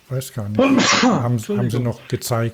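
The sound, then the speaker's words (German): A single sharp sneeze bursts out in the middle of a conversation, fairly loud, with people talking just before and after it. “Gesundheit.”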